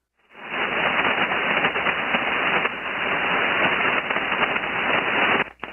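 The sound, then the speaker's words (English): Loud, dense 80 meter HF radio static at night hisses and crackles steadily, with sharp pops and bursts of lightning crashes from lightning in the area during a tropical storm in the Gulf, band-limited like a shortwave receiver, and no voices. “So it's pretty noisy tonight. A lot of lightning in the area.”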